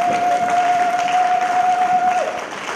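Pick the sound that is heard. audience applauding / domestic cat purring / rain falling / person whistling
audience applauding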